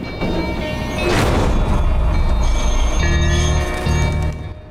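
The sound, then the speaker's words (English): A tram rumbles through the sun-dappled streets of New Orleans in the American Deep South, with heavy low rolling noise, metallic rail squeal and ringing tones as it passes steadily through a busy street before fading slightly at the end. “A pigeon flaps out of the way of a tram that cuts through the sun-dappled streets of New Orleans in the American Deep South.”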